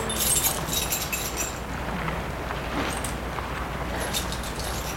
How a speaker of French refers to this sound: Il ouvre la porte de sa maison avec ses clés.